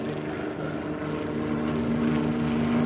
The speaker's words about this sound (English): Army helicopters coming in low.